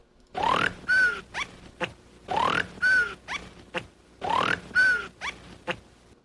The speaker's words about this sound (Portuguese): Eu tô tentando só dar uma respirada para parar de soluçar. Vou dar um tempinho.